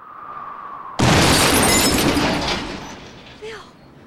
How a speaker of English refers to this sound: The car explodes. Well, no, probably not now. A bright orange fireball rises into the sky.